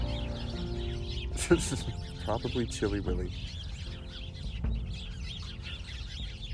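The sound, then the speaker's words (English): Birds cluck and call in short, repeated bursts in a park, with a few sharp chirps rising over a steady background hum while a person speaks briefly. “The birds tend to agree as well.”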